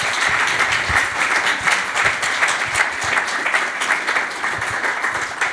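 Sustained applause from a forum audience for the speakers of the last round table, a dense, steady wash of many hands clapping at once, fairly loud and continuous throughout with no speech over it.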